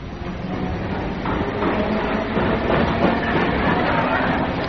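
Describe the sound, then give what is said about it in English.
Steady, loud rumble of a train running along the rails, with a continuous clattering roar and faint rhythmic knocks throughout, as if heard from inside a carriage, with a hint of murmuring voices. “And on the train, I met a bloke from my last job.”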